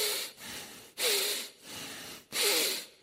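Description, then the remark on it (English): Four loud, heavy breaths through flared nostrils, alternating in and out in a steady rhythm with brief pauses between them and no talking. “The word for anger here literally in the Hebrew means the nostrils or the flaring of the nostrils. And the idea is the heavy breathing of God.”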